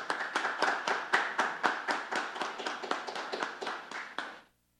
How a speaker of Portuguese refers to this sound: Pedimos a todos uma calorosa salva de palmas.